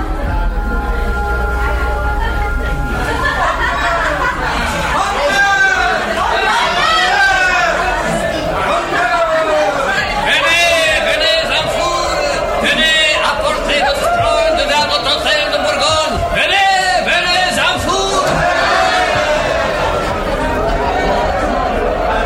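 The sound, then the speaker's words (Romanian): An excited crowd climbing the Pont-Neuf in Paris, heading toward the Hôtel de Bourgogne theatre, clamors continuously, many voices overlapping in a loud, dense babble with rising shouts and calls that never let up. “Într-adevăr, mulțimea înflăcărată urcă Pont-Neuf.”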